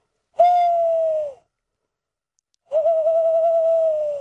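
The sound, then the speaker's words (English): A person imitates an owl with two long, clear hoots separated by a brief pause, the second hoot slightly wavering and cut off at the end; fairly loud, no other sounds. “And, you know, you hear me hooting like an owl and, you know, calling like a gorilla.”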